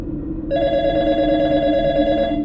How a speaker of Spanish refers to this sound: Esa intranquila quietud se rompió la segunda vez en que sonó el teléfono.